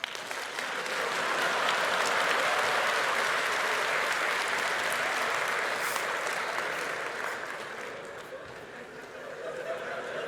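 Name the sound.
audience clapping to vote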